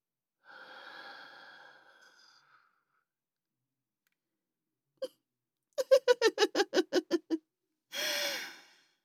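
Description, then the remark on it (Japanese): A soft, drawn-out breathy exhale, blown gently onto the listener's face, fades away, followed by a small click, a quick run of about nine short breathy puffs, and a final brief, stronger gust of breath. No speech. “甘い吐息でお顔を包まれたご気分はいかがですか？”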